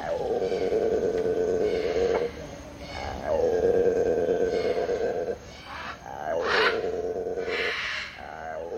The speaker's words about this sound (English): Well, that was one of the sounds of the Amazon jungle that I've always wanted to hear. It's a howler monkey, and it's one of quite a large repertoire of different sounds that they make.